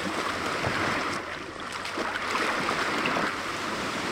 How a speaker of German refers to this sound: Oh, dem Pinguin ist es auch zu warm in diesem Sommer, sodass er etwas Erfrischung im Wasser sucht.